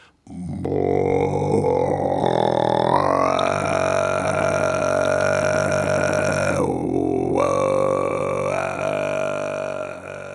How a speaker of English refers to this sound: There are three broad styles of Tuvan throat singing. Kargara, which is very low, like a growling sound.